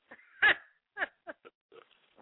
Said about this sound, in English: I don't know which one of them motherfuckers snore, but it's one of them.